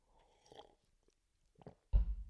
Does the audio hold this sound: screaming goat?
no